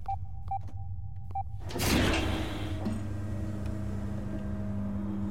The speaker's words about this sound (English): As the door slid open, lights illuminated a large figure.